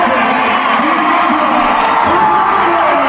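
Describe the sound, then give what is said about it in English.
A large stadium crowd, up on their feet before a game, roars and cheers wildly without pause, a dense wall of shouting and whooping voices with occasional higher shrieks rising above the din. “The crowd went wild.”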